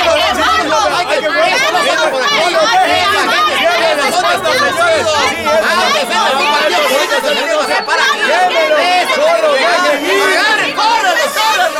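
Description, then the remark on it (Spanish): An angry mob shouting, a dense wall of many overlapping voices that stays loud and unbroken, with raised cries rising and falling through the churning crowd noise. “Y mientras huíamos de la turba enardecida, escuchamos a una señora gritar”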